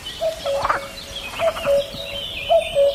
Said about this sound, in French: c'est cadeau, je vous remets le coucou.